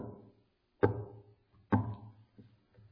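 Two heavy, evenly spaced knocks on a door, each with a resonant wooden boom that rings out briefly, followed by a couple of faint, softer taps. No one speaks.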